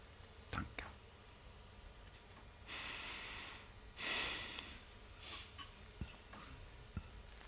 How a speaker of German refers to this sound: Kannst du bitte leiser atmen?